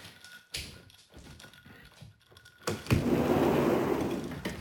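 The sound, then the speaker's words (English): A few soft taps and footsteps, then a sharp clack as a sliding door to a back patio rolls open. A steady broad rumble of neighborhood ambience and a gentle breeze swells and holds, moderately loud. “Sliding door.”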